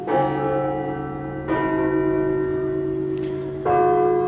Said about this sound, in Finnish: Helsingin Johanneksen kirkon kello lyö. Se ilmoittaa siirrytyn rukouspäivän aaton viettoon.